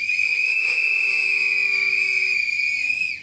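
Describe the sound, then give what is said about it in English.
An audience whistles loudly in answer to whether they have used a sex toy with a partner, with one piercing, steady high note held for about three seconds and fainter overlapping whistles underneath. Nobody speaks. “Whistle if you've used it with a partner.”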